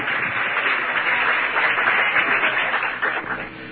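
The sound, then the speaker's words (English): An audience at a church service breaks into sustained applause for Jesus, a dense wash of many hands clapping at once, loud and steady for several seconds before easing slightly at the end. “Let's give Jesus a big hand clap.”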